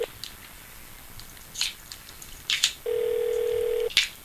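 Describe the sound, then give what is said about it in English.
A telephone ringing as heard through the line during a live radio broadcast: one steady, mid-pitched electronic ring lasting about a second, surrounded by a few soft clicks and rustles, with no one speaking. “Nothing like live radio with just the phone ringing.”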